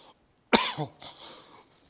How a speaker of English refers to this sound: I'm coughing here.